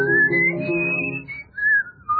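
Someone whistles a short melodic phrase from Beethoven's Leonor overture number three, holding a long bright note before sliding into a few rising and falling notes, with a low hum underneath and no talking.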